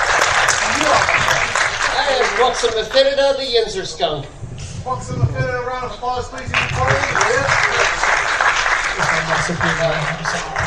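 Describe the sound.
A crowd applauds loudly and steadily for the whole stretch, a dense wash of clapping, while a voice speaks over it for a few seconds in the middle.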